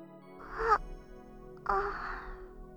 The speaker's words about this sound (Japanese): ああ。私としたことが、あくびを見せるなんて。よっぽど、あなたのぬくもりが気に入ったのかしら。